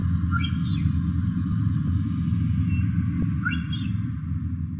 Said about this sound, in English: And finally the whistle of the odontocetes, the orcas, moving around quite a bit in the south.